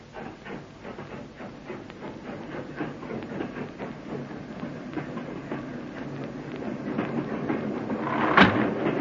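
train running on rails

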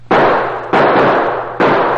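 pistol gunshots

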